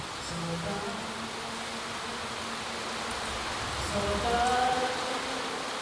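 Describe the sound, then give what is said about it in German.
Heavy rain pelts steadily on a tin roof during the rainy season, loud enough to drown out a stage performance: a dense, continuous rattling hiss that swells slightly louder near the end, with a faint humming tone underneath and no voices. “Da muss schon mal eine Aufführung unterbrochen werden, wenn es plötzlich unübertönbar auf das Blechdach herunterprasselt.”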